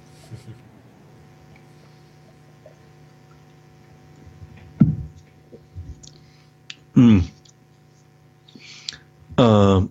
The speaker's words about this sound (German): Und bei der Gelegenheit werde ich einen Schluck Wasser trinken.